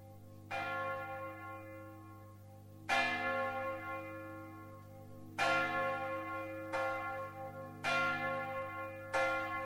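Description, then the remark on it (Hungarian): A church bell tolls the first call to midnight mass in slow, steady strikes, five in under ten seconds, each ringing out with rich, lingering overtones over a low constant hum, with no voices. “Elsőt harangoztak az éjféli szentmisére”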